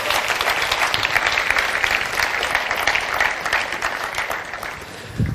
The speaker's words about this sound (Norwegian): Det var så bra. Tusen takk, skal vi gi deg en applaus.